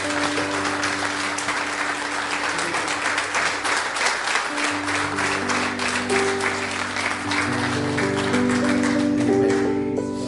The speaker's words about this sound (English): We're blessed. We're blessed. Oh, let's just give him a hand clap of praise.